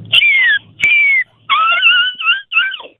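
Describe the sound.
A person imitates a seagull call: a series of five loud, high, wailing cries with gliding, slightly falling pitch, each about half a second long, separated by short gaps.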